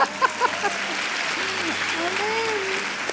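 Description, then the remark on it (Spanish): Steady, dense audience applause lasting about three seconds, a continuous wash of many hands clapping, with a few voices calling out and cheering over it, given for the speaker's wife at a preaching event. “Sí, denle un aplauso a mi esposa.”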